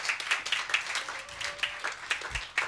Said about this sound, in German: Also, den Applaus habt ihr euch auf jeden Fall verdient, auch wenn man normalerweise nicht nach der Predigt klatscht. Aber in dem Fall, glaube ich, ist das mehr als gerechtfertigt.